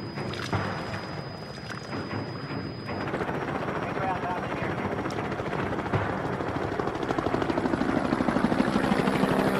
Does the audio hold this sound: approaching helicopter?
yes